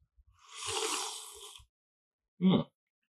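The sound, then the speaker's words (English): A long, airy slurp of coffee lasting about a second, the first sip at a coffee tasting, followed after a short pause by a brief, throaty gulp-like sound. No one speaks. “All right, here comes the first sip.”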